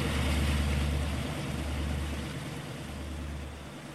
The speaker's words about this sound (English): A boat is fast approaching. Buckley gets out of the way, but a bigger boat follows, disturbing the once peaceful water even more.